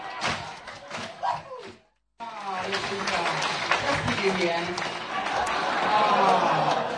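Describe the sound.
An audience claps in a dense, steady wash of hand claps mixed with crowd voices, broken by a brief drop-out near two seconds, then resuming and swelling slightly toward the end.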